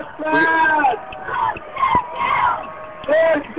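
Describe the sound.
A dense crowd screams and yells continuously, many overlapping high-pitched voices rising and falling in loud bursts, with a few sharp shrieks standing out near the middle and end.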